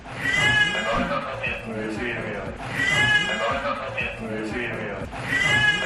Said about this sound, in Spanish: Sí, los agentes encontraron a este bebé que estamos escuchando, de 5 meses, llorando en un carrito mientras su madre tomaba alcohol.